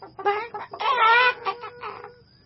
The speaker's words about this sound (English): The chickens hated Zugo. They screeched and cackled when they saw him.